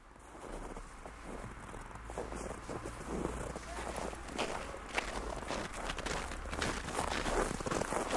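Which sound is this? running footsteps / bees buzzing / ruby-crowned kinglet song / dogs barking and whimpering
running footsteps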